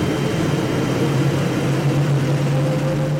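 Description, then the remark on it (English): A loud, continuous roar like a jet engine starting up, with a steady low hum building beneath broad rushing noise, heard while out on surfboards on water without a ripple. It fills the whole moment, with no voices. “Then we hear this sound like a jet engine starting up.”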